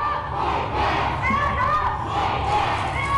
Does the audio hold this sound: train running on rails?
no